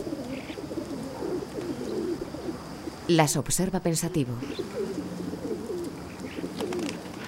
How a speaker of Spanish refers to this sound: En la azotea revolotean varias palomas.